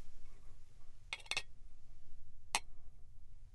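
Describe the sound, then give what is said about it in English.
Clear, thick liquor is poured from a mason jar into a glass, heard mainly as three sharp glassy clinks, two close together and one a moment later, over a low steady rumble with no talking. “Yep, this is, well, here, I'll just pour you a little bit.”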